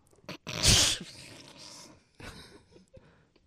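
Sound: sneeze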